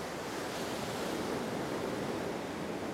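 Steady roar of ocean surf, waves washing continuously with a broad hissing rush; fairly loud, with no individual crash standing out and no voices.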